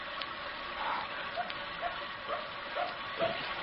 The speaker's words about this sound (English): There's that dog again. Don't you hear it? Somebody's out there. There might be a house nearby. Maybe it's barking to be let in. It senses somebody. There's something out there. There's somebody. That's why it's barking.